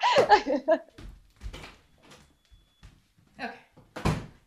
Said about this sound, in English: I have to close the door to my bathroom because suddenly my toilet is emitting a high-pitched squeal.